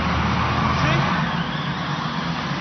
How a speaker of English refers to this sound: That car is sensitive. I mean, $4,000 just drove off.